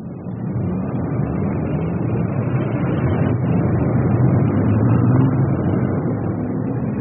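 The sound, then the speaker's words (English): A steady, dense roar of city traffic, with buses, taxis and other vehicles rumbling and passing continuously at moderate loudness, a low mechanical drone filling the street with no voices heard. “Sure, people get homesick for noises like that. When they get back from wherever they've been, they just stand on street corners and lap it up.”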